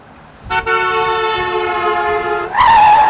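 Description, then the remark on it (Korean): A car horn blares in one long, steady, loud blast for about two seconds in a traffic jam, then a second, brighter honk cuts in right after, with no voices. “저 빵빵거리 새끼 잡아.”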